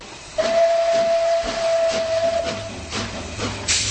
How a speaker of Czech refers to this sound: Osobní vláček projel Karlštejnem, zahoukal a zamířil do krajiny skal a údolí řeky Berounky.